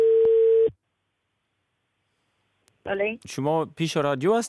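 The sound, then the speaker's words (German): One steady beep of the ringing tone of an outgoing mobile phone call, clear, breaks off into two seconds of silence before a voice answers and starts speaking. “Ich rufe sie über Handy an.”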